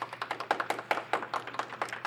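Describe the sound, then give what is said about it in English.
A small audience claps to vote, with quick, sharp claps arriving in an uneven, steady patter at moderate volume. No one talks over it. “If we think FBI agent should make its way into the internet history books, please clap.”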